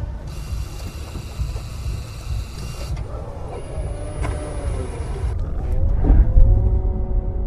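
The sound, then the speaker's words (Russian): A hydrogen car's motor runs with a steady electric whine, a high-pitched tone and rising, sweeping pitches as it speeds up, over a low mechanical rumble; no one speaks. “Вот так вот работает мотор водородного автомобиля.”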